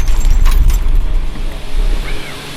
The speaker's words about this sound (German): Und wenn ihr jetzt dachtet, von außen betrachtet sind Windräder laut, dann nehme ich euch jetzt mal mit rein ins Windrad.